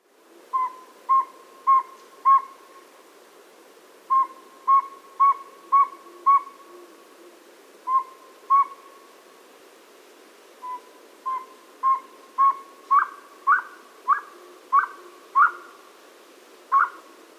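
bird, boreal owl call

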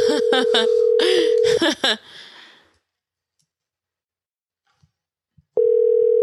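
signal or alarm, phone call ringing tone

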